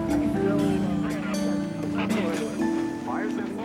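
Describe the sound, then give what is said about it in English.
A tugboat's engine drones low and steady, fairly loud, with a deep rumbling hum throughout as the tug approaches on a river, while indistinct voices murmur faintly in the background. “Here comes the tug now.”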